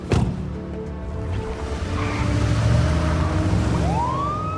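An OFI truck races down a city street past parked cars and bags of trash, with a steady, loud engine rumble and road noise, and near the end a siren starts wailing upward. No one speaks.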